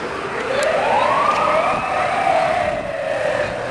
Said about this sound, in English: Is that like the late night version of the ambulance?